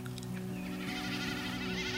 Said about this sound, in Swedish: Men enkelbeckasinens speläte går liksom mycket snabbare.